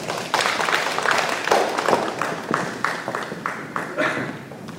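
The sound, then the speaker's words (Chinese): A church audience breaks into steady applause for mothers, a dense wash of many hands clapping that stays fairly loud throughout, with a few sharper individual claps standing out in the texture. “好，给他们一个掌声，好吧？”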